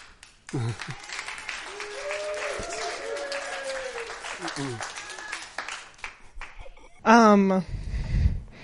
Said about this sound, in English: You guys didn't need to cheer for me, but thanks.